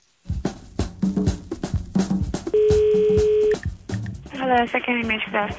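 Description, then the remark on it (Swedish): Telephone dialing tones sound between stretches of talking, including one loud, steady beep lasting about a second, followed by a voice speaking over the line, as calls abroad are placed from a small booth at Sveriges Radio in Sweden. “satte hon sig i ett litet bås här på Sveriges Radio och ringde till världen.”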